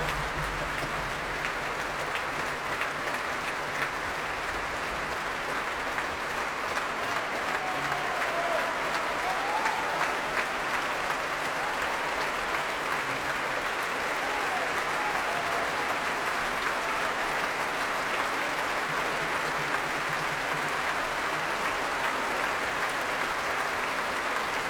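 Sustained, dense applause from a large audience at the Royal Albert Hall for the Swedish performers after an encore at a Prom conducted by Sakari Ormo, with a few faint whoops and cheers rising above the steady clapping throughout.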